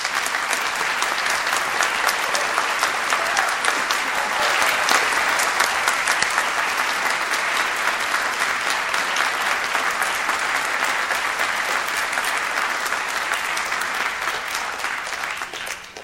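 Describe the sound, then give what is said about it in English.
At an Eastern Mennonite Seminary graduation ceremony, a large audience claps steadily for about sixteen seconds for the contributions of two people, a dense, even wash of many hands that holds at a loud level and tapers only slightly at the very end. No one speaks. “Would we please join in applause for their contributions?”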